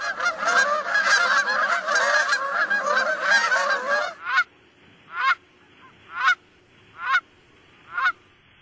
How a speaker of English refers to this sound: And we had also mentioned Canada geese as a species that has really come back from the brink and in a big way. Let's listen to what the geese sound like. I think this is a pretty familiar one for most people, but let's just play it.